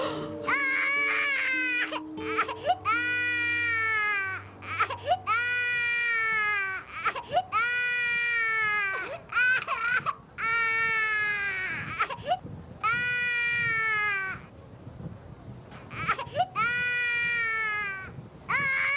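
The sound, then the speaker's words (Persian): A baby wails in repeated long, strained, loud bursts, each cry rising then falling with brief gasping pauses between, continuing steadily throughout. “ای با چی گریه میکنی تو؟ ببین من قربونت برم.”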